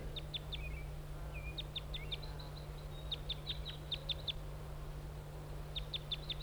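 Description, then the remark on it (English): A wild bird perched on a spruce across the road gives flight calls: clusters of short, high chirps repeated in quick bursts, with a few brief trilled notes, over a steady low hum. Nobody speaks. “and giving flight calls.”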